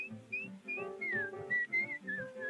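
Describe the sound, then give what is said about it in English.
A bright, clear whistle carries a lilting melody in short rising and falling phrases over a soft musical accompaniment, with no one talking. “Forget your troubles, try to be just like the cheerful chickadee, and whistle while you work.”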